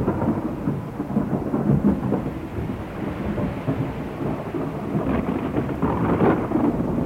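A thunderstorm roars steadily, with deep rolling thunder rumbling beneath heavy, constant rain for the whole stretch. It's loud, with no voices.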